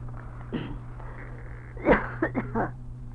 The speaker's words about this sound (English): While I was talking to you, I began to cough, but I couldn't apologize